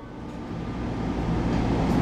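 A Metro Gold Line train rumbles steadily along above-ground rails, a dense low roar with rattling undertones that grows slightly louder over two seconds, heard from inside the carriage with no one speaking.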